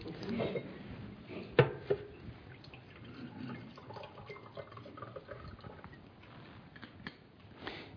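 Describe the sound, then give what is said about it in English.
Water is poured for a drink in a steady, gurgling trickle, with a sharp clink near the start as if from a glass, then a few small drips and quiet handling noises. “I just need a drink of water.”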